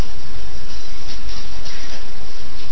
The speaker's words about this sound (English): The train was still running.